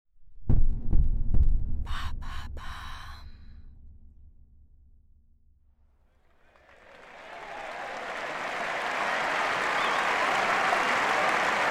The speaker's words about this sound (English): June 8th, 2002. The crowd roars in excitement in the stands of the Philippe Chatrier Central Court. But when the referee calls for silence, everyone instantly falls quiet.